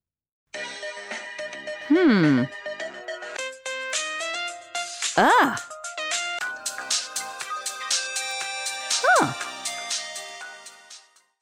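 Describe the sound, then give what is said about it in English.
Short electronic phone ringtone melodies play back to back as a woman chooses a new ringtone, bright, with a few sliding, whooping tones between the jingles; no one is talking. “She's choosing a new ringtone.”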